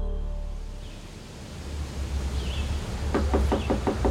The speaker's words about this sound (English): a trooper knocked on Ben and Susan's door at Riverview Avenue